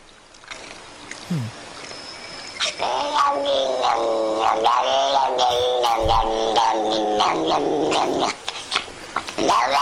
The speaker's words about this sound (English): cat making weird noises. Cat makes weird noises. Wow, that's incredible. They're rubbing him with a little scratchy brush. They're brushing him.